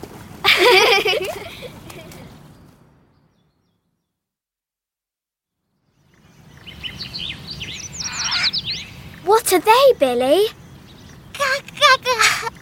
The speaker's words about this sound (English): They're birds, Billy. Birds! Tweet, tweet, tweet, tweet!